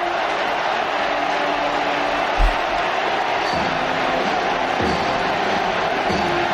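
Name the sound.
crowd shouting and cheering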